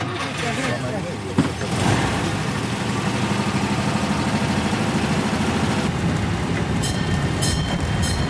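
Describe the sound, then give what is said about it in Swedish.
A small tourist train rumbles steadily along the main street on Norrbyskär with a continuous low engine drone and rhythmic clatter, overlaid by a voice talking from loudspeakers above the riders throughout, with brief brighter hissing bursts near the end. “Så, men vi börjar med tågturen och vi kommer att köra längs huvudgatan här på Norrbyskär.”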